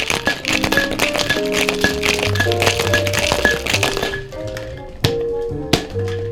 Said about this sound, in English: And you want to shake until the glass, until the Boston gets a little bit nice and frosty. Oh, that's a good gauge. So then you know everything's cold at that point.